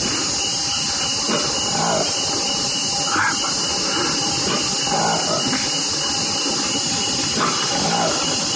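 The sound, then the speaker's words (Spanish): A newly discovered ape species found in the Democratic Republic of the Congo, Africa, calls in a series of rough, grunting bursts, about five spaced a second or two apart, over a steady hissing background noise. “No es un cerdo gigante, ni tampoco es el rugido de un felino, no. Es una nueva especie de simio, un mono que encontraron en el África, más exactamente en la República Democrática del Congo.”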